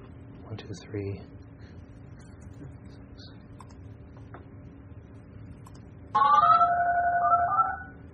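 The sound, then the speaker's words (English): A short run of DTMF telephone keypad tones generated in Audacity with its default settings, each beep a steady two-note chord, sounds loudly for about a second and a half after a stretch of quiet, low background hum. “It says DTMF sequence audacity.”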